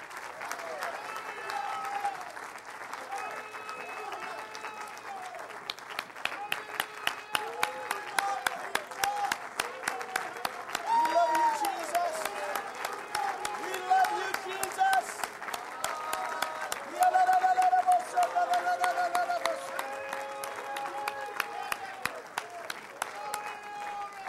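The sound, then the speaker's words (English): A church audience bursts into sustained applause for the Lord Jesus, dense overlapping hand claps lasting over twenty seconds, with scattered cheers and voices rising through the clapping. “Let's give the Lord Jesus a great big hand clap.”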